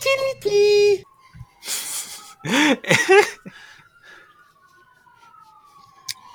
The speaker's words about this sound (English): Sirens, that's awesome. Oh, that's perfect time for me in the background.